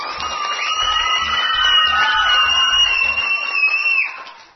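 A crowd cheers and applauds, with sustained high-pitched shouts and whoops over dense clapping and a few low thumps, loud throughout before fading off at the end.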